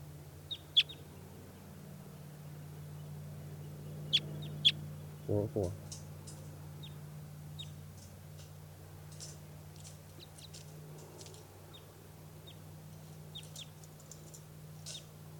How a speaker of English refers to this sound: That other type 2 in the background is bird 387. Oh, there is a crossbill here. It's an orange male with a right crossing bill.